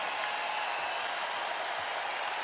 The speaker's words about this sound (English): Crowd loving it here at the Kohl Center.